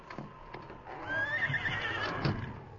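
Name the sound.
horse neighing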